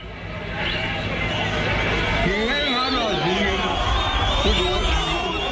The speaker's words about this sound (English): His audience is mostly Zulu men who live in hostels in and around the city. The police say some of them have led in the xenophobic violence. Buthelezi appeals to them to stop attacking foreigners, but the men jeer him.